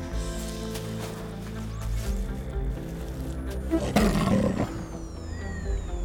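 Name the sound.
tiger roaring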